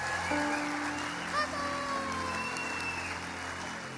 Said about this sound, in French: Qu'est-ce qu'ils sont pas grandioses, ces enfants. Aren't they beautiful? Est-ce qu'on peut les applaudir bien fort, bien fort?